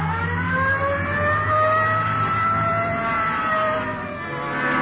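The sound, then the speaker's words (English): A police car's siren wails steadily and loudly over the rumble of its engine as it pulls away on a Code 3 call to a shooting at the corner of Hill and Geneva Alley, the tone sweeping continuously with no voices present. “Code 3. Hit the light. Yeah, come on, let's roll.”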